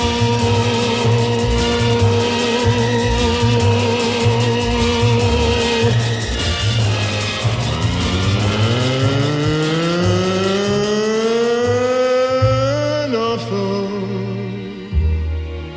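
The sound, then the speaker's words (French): Loud, continuous engine roar of city traffic, with one car engine revving up steadily in pitch before dropping back to a low rumble near the end. No voices. “Ce vacarme infernal, ça casse les oreilles. Il a dit les autos, les camions, le métro, les usines, les radios, les bennes, les marteaux.”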